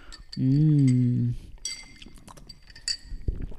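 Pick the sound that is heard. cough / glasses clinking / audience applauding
glasses clinking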